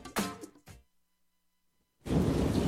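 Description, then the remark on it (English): A thunderstorm with heavy rain: a sharp, loud burst of thunder, a brief silence, then a dense, steady roar of downpour. No one speaks. “Heavy rain and rising groundwater can turn your basement into a disaster zone overnight.”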